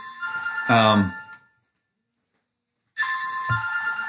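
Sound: mobile phone ringtone ringing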